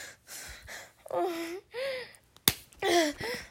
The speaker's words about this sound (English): See? I'll even slap myself just for you.